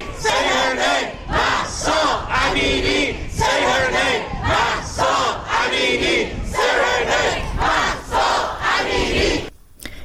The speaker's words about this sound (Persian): اما در کانادا هم تظاهرات بزرگی برگزار شد، هم در شهرهای مختلف کانادا از جمله تورنتو که شاهد تظاهرات بزرگ بود و در اون باز نام مهسا امینی رو فریاد زدن.